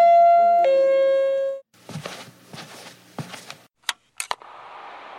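A bright two-note doorbell chime rings out clearly at a home's door, followed by approaching footsteps, a couple of sharp clicks like a latch, and a soft rush of air as the door opens.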